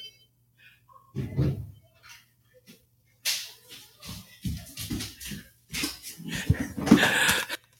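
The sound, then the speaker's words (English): A child bangs on a door in a loud, irregular flurry of heavy thumps, starting with one brief burst before a longer run of repeated knocks and rattling. “Don't bang on the door again.”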